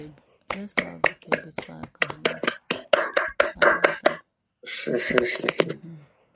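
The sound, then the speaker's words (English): A crowd at a prayer gathering claps in a quick, steady rhythm of sharp, bright hand claps as the woman who will lead the next 30 minutes is introduced. After a brief pause, a denser, louder burst of applause follows. “Round of applause.”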